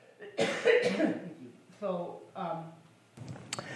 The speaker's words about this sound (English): I do have to cough